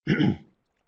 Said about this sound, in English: And I apologize for my coughing today. Just got a little tickle in my throat, seems like.